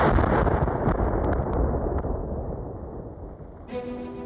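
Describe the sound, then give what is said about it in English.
A U.S. rocket, after rising about 4 feet off its launch pad, crashes to the ground and explodes in a fiery blast: a loud, deep, rumbling roar that sustains for several seconds and slowly eases, before a steady tonal hum enters near the end. “Before crashing to the ground and erupting into a fiery explosion.”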